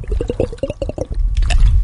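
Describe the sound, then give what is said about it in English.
A person gulps water, with about eight quick wet swallows in a steady rhythm, then a louder, splashier slurp of liquid at the end. No one speaks. “Take what you would like a little tiny sip of water.”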